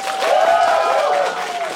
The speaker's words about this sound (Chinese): 今天掌声有请我们几位主播好不好，我们先请出我们两位老朋友阿成和卡卡，以及两位第一次来到不开玩笑的，让我们掌声欢迎吴星辰和广志。